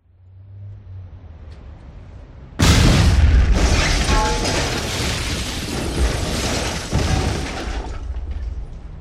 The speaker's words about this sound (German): In der Innenstadt explodierte die Fassade eines ansonsten unverdächtig aussehenden Bürogebäudes. Eine dunkle Rauchwolke stieg entlang der Hausfront nach oben.